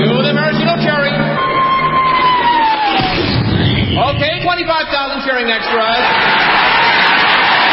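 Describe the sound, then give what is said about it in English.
A huge crowd of 25,000 extras roars and cheers as a 10-ton maraschino cherry is dropped into whipped cream, a loud, continuous wall of massed voices and yells, with a falling whistle-like tone sliding down early on before the cheering surges. “Then the Royal Canadian Air Force will fly overhead towing a 10-ton maraschino cherry, which will be dropped into the whipped cream for the cheering of 25,000 extras.”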